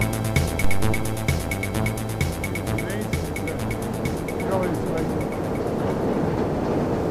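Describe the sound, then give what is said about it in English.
A train rumbles past, its wheels clacking in a steady rhythm over a loud, continuous roar that gradually smooths out as it goes by. “I mean, it's kind of like, unless the trains go by every 15 minutes.”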